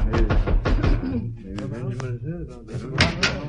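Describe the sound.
A quick series of sharp knocks on Benjamin Banneker's door in the first second, fairly loud, followed by people talking with other sounds underneath.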